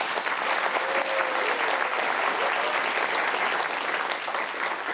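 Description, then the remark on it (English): Sustained audience applause for a panel in the BBC tent at Hay Festival, a dense, steady wash of many hands clapping, loud and even throughout with no pauses. “A round of applause for our panel.”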